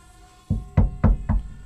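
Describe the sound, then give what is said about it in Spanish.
Four firm knocks on a door in a steady, evenly spaced rhythm, each a dull thud with a solid low body, with no voices. “Llaman a la puerta.”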